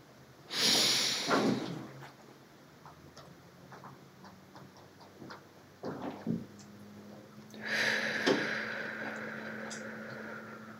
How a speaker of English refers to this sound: An alternative to meditation is called box breathing, where we're breathing in for four counts, holding it at the top for four counts, and breathing out for four counts. I'm going to demonstrate it for you, and then we'll do it together.